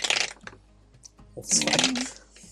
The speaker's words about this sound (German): Ich würde gerne mal auf Zechen würfeln.